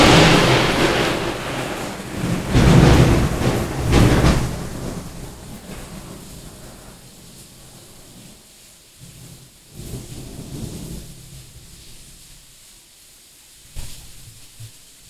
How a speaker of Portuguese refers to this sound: Vocês ouviram aí? Que trovão, hein? Que trovão, hein? Vamos seguindo, hein? Gente, olha, trovões na nossa região aqui.